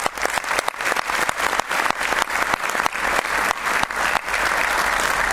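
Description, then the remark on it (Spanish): Sustained audience applause for the athletes at a sports awards ceremony of the Círculo de Periodistas Deportivos de Chile, a dense steady wash of many hands clapping at a loud, even level for several seconds with no voices over it. “Y por supuesto, y muy especialmente, a nuestros deportistas, que son definitivamente los dueños de esta fiesta, para quienes pido el primer aplauso de esta manera.”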